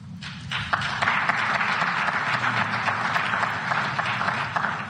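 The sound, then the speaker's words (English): Sustained audience applause in a played clip of a speech about a new sheriff in Washington under Donald Trump's leadership, a dense wash of many hands clapping at steady loudness for the full five seconds, with brief sharper claps poking through the roar. “listen to the applause here”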